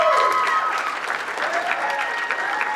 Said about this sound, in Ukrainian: Ваші оплески.